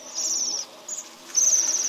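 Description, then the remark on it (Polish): Bohemian waxwing contact calls from members of a flock: thin, high-pitched, gently vibrating buzzing trills in three bursts, a long one, a brief one, then another long one, with no voices. “Jej głos kontaktowy jest delikatnie wibrujący.”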